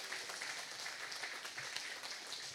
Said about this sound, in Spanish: Se pudrirá a causa de la unción. Dale palmas al Señor. Eso es.